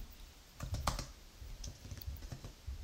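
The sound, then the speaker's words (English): Irregular bursts of keystrokes clatter on a computer keyboard as someone types an internet search for TV songs that became hits, moderately loud, with quick clusters of clicks and short pauses between them, and no voices. “My typing skills isn't quite as good as yours.”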